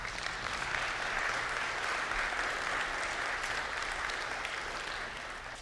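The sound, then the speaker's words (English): An audience applauds a testimony steadily, a dense wash of many hands clapping at an even loudness for several seconds before it begins to taper off at the end. “I think we probably want to applaud that testimony.”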